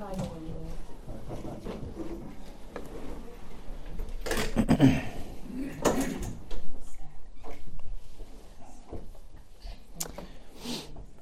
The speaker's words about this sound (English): Can we close the door? It's really distracting.